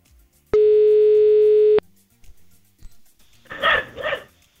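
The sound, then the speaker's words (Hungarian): A single long, steady telephone ringing tone of a call going unanswered, loud and buzzy, lasts just over a second, followed after a pause by two quick dog barks. “Nem veszi föl?”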